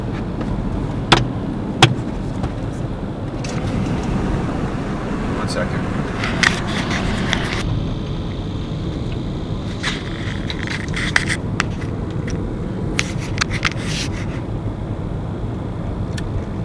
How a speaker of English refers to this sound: I let that car pass.